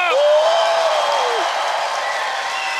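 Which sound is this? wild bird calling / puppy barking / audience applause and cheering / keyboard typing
audience applause and cheering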